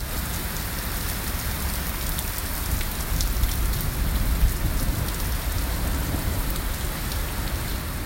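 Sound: rain pouring down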